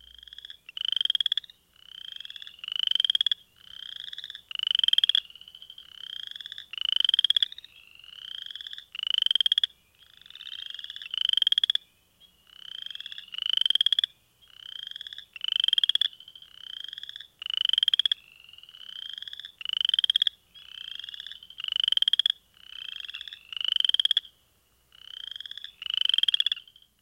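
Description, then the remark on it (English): Western chorus frogs calling in a steady chorus, each call a rising, raspy trill like a fingernail run along a comb's teeth, repeating rapidly and loudly with no voices present. “Many of these have clicking calls that sound like someone rubbing their fingernail across the teeth of a plastic comb. Here's the Western chorus frog.”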